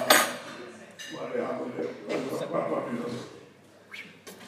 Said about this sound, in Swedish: Nu måste vi plocka undan. Nu måste vi plocka undan disken.